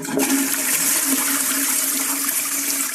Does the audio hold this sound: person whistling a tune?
no